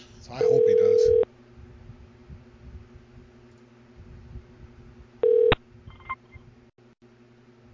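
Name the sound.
phone call hung up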